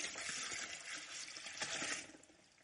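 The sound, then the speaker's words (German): Water pours steadily into a container for about two seconds, a bright continuous splashing rush, then tapers off quickly. No one speaks. “Sollte Conny sogar nochmal Wasser”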